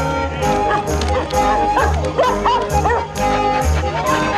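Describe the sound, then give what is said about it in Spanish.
A dog barks and yips excitedly several times in quick succession as it runs happily among sailors at a party on a ship's deck, over lively, busy music with some indistinct voices in the background. “Un perro corre feliz entre ellos.”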